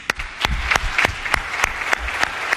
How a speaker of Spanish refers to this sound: Y también es para Antonio Puerta, y para José Antonio Reyes, y para Marcelo Campanal, y para Biribiri, porque las leyendas nunca mueren, y porque desde el tercer anillo quiero que escuchen este fuerte aplauso.